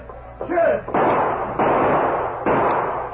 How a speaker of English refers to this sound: He saw the outlaws approaching and drew back out of sight until they passed the office. Then the sheriff opened fire. As he triggered his guns,